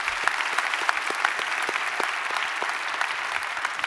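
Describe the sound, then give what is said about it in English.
Steady applause from a church audience across all its campuses, welcoming people joining online, a dense wash of many hands clapping with irregular sharp claps popping out, holding at an even level throughout with no voices. “By applause, would you help me welcome them, if you will, in all of our campuses?”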